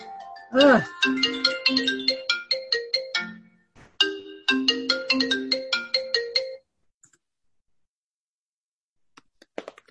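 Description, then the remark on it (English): An iPad rings for an incoming phone call with a melodic electronic ringtone, a bright chiming phrase played twice over about six seconds, loud, then it stops, leaving silence and a few faint taps. “Okay, I don't know why my iPad rings whenever I get a phone call.”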